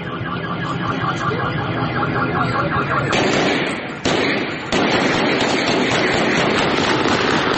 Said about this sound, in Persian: ویدیوهایی که توسط شهروندان ضبط شده و به دست رادیو فردا رسیده نشان می‌دهد که این اعتراض‌ها به خشونت کشیده شده و صدای تیراندازی نیز شنیده می‌شود.